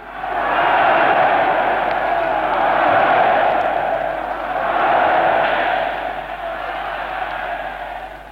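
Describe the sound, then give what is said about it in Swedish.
A vast crowd of about a hundred thousand roars and cheers continuously in Berlin's stadium as Adolf Hitler arrives to declare the 11th Olympiad open, a dense wall of voices that swells and ebbs in slow waves over several seconds, loud and sustained throughout. “De hundratusenstämmiga jubelrop ni hör, det dånar i Berlins stadion mot fyren Adolf Hitler som nyss har kommit.”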